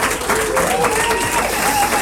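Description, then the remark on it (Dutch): Steady, dense applause from a crowd for all the people working hard for everyone these days, many hands clapping in a continuous wash of sound with a few faint tonal whistles or cheers riding over it. “Even een applausje voor al die mensen die zich deze dagen zo hard voor ons allen inzetten.”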